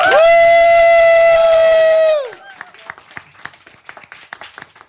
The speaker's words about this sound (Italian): Facciamo un applauso